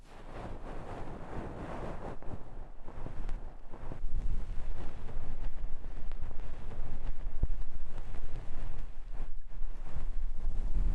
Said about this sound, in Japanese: 雨音に耳を傾けながら癒されてくださいね。